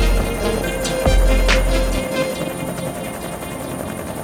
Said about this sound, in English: I hear the forceful flight of the helicopter. Urgency.